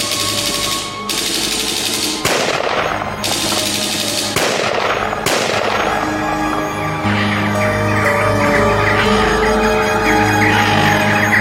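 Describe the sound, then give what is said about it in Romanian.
Sharp, loud gunshots crack out in a rapid series at first, then fade into a dense, rumbling din of continuous firing and noise, with no one speaking. An exchange of gunfire on a mountain, with the group in the valley firing back. “Ai noștri au împușcat doi bărbați din grupul din vale după ce au ripostat cu focuri de armă”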